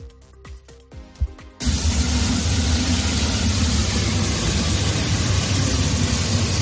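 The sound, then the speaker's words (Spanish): A roaring gas flame blasts from a broken pipe after an ignited gas leak caused an early-morning explosion at a bar on Calle Cuevas de Altamira, Carabanchel, Madrid; a loud, steady rush of hissing and deep rumbling starts abruptly after a short tonal lead-in and holds unbroken to the end. “Provocada por un escape de gas incendiado, así como escuchas, sonaba la gran llama que salía de esa tubería rota.”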